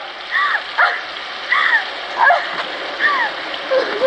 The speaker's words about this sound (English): Turning off the shower, Regan crouches beside the weeping Bianca.